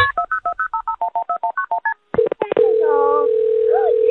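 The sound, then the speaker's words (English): A quick run of about a dozen touch-tone dialing beeps at the start of a phone call to 911, followed by a few clicks and a loud, steady telephone tone that holds to the end, with faint voices beneath it. “And everybody picked the donut story, which is this phone call.”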